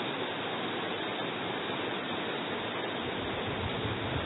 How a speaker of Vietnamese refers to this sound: Các vị mưa làm gì mà mưa to thế, thôi giảm bớt mưa đi, mưa mọi người không nghe được.